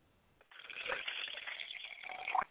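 liquid poured

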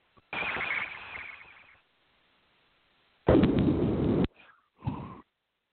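phone ringing

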